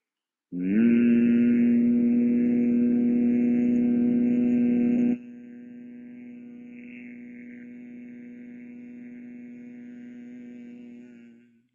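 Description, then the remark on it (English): A steady, low-pitched hum held on one long exhale for about eleven seconds during a breathing exercise with the fingers closing the ears and holding the eyelids, loud at first, then dropping abruptly to a softer, even drone until it fades out. “Exhale for 12 and hum.”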